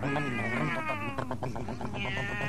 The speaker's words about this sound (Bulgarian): Ето ги. Котки. Котките бягат след колата.